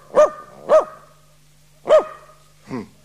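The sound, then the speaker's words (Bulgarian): A dog named Runtovko barks four times, two quick barks, a pause, then two more, the last one softer. Sharp, with a low steady hum underneath and no talking. “Назад, назад, Рунтовко, назад. Ела при мен.”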